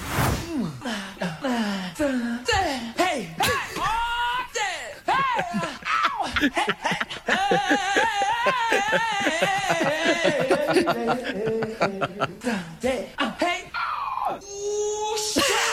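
A rapid string of a man's wordless vocal yelps, yells, whoops and sung cries cut from a song's vocals, spliced together back to back, loud and close, each burst short with abrupt cuts between them.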